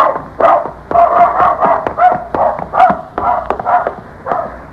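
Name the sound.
dog barking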